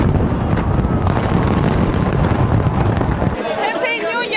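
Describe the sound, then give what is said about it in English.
A loud New Year's fireworks display in New Zealand welcoming 2023, dense booms and rapid crackling bursts layered together, before the rumble suddenly drops away near the end, leaving high whistling tones. “In New Zealand, 2023 arrived with laser lights and fireworks.”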